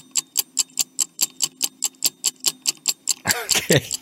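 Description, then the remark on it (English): A two-minute countdown timer ticks in a fast, steady rhythm, each tick crisp, for about three seconds before a voice starts talking over the end. “Let me pull my timer. 2 minutes on the clock starts now.”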